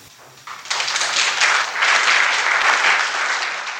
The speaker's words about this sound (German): Beifall für die Pein des jungen Löwen.